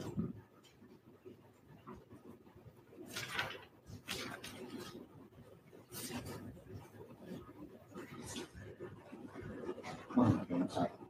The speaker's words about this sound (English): And she's in a state of panic. Again, and her dogs are running around the apartment barking. It's a very hectic scene, right?